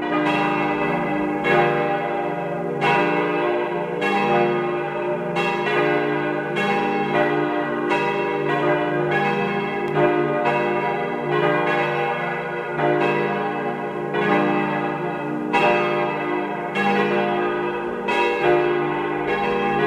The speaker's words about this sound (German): Es ist 12 Uhr. Sie hören die Glocken der Pfarrkirche zu den Heiligen Stephanus und Anna in Karres in Tirol.